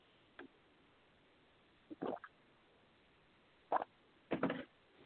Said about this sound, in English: Go get a piece of paper real quick while I take a sip of water, and then I'm going to play the video.